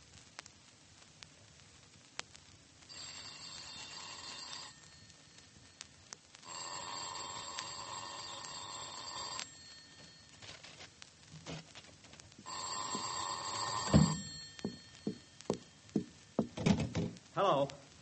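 A telephone rings in three long bursts separated by pauses, steady and fairly loud, followed by a quick series of knocks and clunks as the handset is handled.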